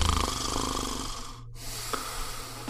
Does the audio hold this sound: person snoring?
yes